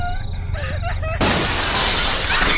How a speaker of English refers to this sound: Suddenly, the room was bathed in a shower of shattered glass.